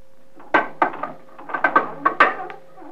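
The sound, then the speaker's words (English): A trap door under a kicked-up carpet being worked open: a run of about nine sharp wooden knocks and clunks over a few seconds, unevenly spaced, over a faint steady hum, with no voices. “Few steps west, then turn the corner, kick the carpet up, and open the trap door.”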